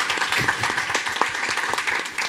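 An audience at a public recording applauds the host's little brother as he arrives late, a dense wash of many hands clapping at once, fairly loud and sustained throughout with no voices standing out.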